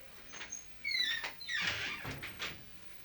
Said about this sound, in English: Let me shut the door.